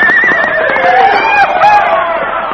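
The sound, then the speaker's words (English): A bucking bronco neighs loudly and shrilly in a long, wavering whinny as it bursts out with a rider aboard, continuous for a couple of seconds, with faint hoof clatter beneath. “Look at that horse.”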